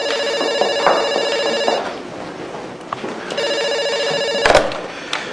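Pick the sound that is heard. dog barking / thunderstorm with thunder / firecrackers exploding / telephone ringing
telephone ringing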